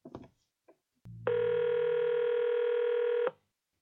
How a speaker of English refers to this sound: Alright, let's try this last one. And if nobody picks up, I'll probably just edit out all the ringing signals because, you know, nobody wants to listen to that, but we'll see what happens.